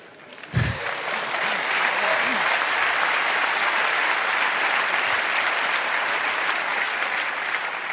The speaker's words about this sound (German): Danke für den Applaus.